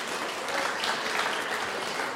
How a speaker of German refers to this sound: Und wunderschön, auch eine schöne burgenländische Mundart zu hören. Auch dafür einen Applaus.